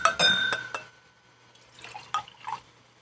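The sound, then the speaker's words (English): A glass clinks sharply a few times, then water is poured into it in short gurgling bursts, with quiet room tone between and no talking. “I'm a little parched here. I'm going to have a little. You want some water?”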